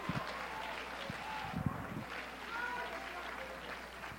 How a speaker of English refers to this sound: Oh, clap your hands, all you people.